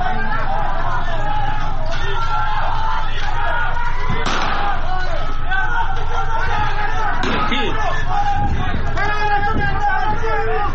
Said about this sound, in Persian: صدای تیراندازی در فولاد شهر اصفهان است به روی معترضین